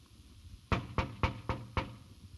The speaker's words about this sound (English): So he is knocking on the door.